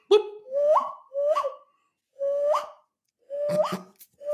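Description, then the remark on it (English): A person imitates a bird call, giving five or so short whistly phrases that each swoop upward in pitch, repeated with brief pauses between them and no talking. “I can do this sound as well. I don't know what bird it is, but it sounds like a bird.”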